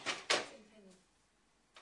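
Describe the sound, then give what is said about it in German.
A cash register drawer opens or shuts with two quick, sharp clacks, followed by a short metallic ring that fades into quiet before a faint rustle at the end. “Das ist das Problem auch nicht mehr mit der Schublade.”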